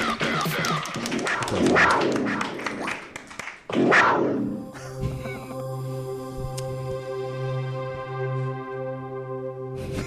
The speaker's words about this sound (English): Yeah, clap. You got free cake. Fucking clap.